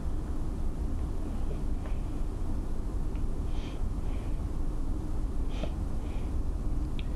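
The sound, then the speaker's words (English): A continuous, heavy low rumble of a passing train holds steady throughout, with a few faint high-pitched squeaks and clicks breaking through now and then. No one speaks. “How is this train distracting me? It's because I can hear it in the headphones.”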